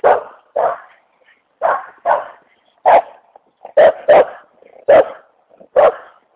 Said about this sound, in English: Jeez, it must be Yappy Dog Day. I didn't get the memo. Oh, easy, puppy dog.